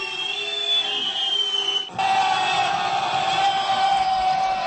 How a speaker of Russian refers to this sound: Похоже, что гол был забит из положения вне игры. Отсюда и такая реакция трибун.